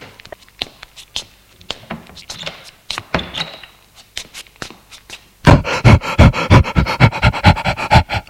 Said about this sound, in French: Le bruit ressemble à une personne qui a des difficultés à respirer.